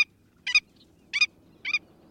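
A willet, a big, boldly marked sandpiper, gives three sharp, nervous yapping calls at an even pace, each a brief harsh double note, ringing out clearly over a soft low background rumble with no voices.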